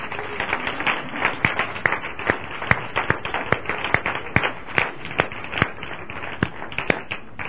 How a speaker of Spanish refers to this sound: Es un gozo tener aquí a tantas personas que han venido a bendecir esta tierra. ¿Por qué no damos un aplauso al Señor por todas las personas que han venido a servir?